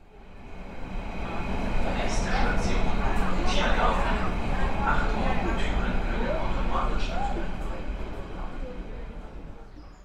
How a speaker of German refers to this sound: Schnell rein in die S-Bahn und ab die Post.